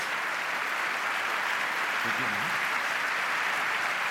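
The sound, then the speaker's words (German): Sustained applause from an audience at the end of a talk, a dense steady wash of clapping that holds at a constant level throughout, with a brief low voice murmur partway through. “euer Applaus”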